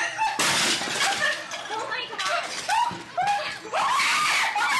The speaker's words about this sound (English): She's screaming because her pants are on fire. She seems to fall on an array of candles.